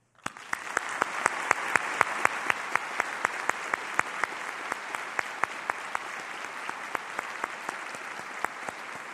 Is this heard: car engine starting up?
no